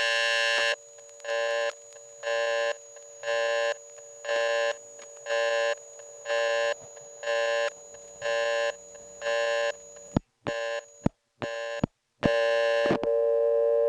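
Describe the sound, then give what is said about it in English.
A steady on-off telephone tone pulses about a dozen times in even rhythm, then gives way to a few sharp clicks and a final continuous tone, loud with no talking, as a call from a coin phone is cut off from the toll network. “Well, that had so many nice organic phone sounds in it that it hardly bothers me that that was an example of being cut off from the toll network.”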